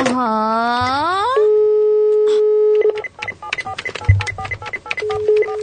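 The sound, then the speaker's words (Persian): A telephone number is dialed: a rising electronic sweep and a long steady tone give way to a rapid, uneven run of short high touch-tone beeps, with a faint murmur beneath. “اولین شماره گیری در اولین روز کاری من.”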